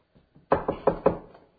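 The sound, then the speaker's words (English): Four firm, evenly spaced, fairly loud knocks on a door, preceded by two faint soft taps. No one speaks. “They're knocking at the door again. Knocking at the door.”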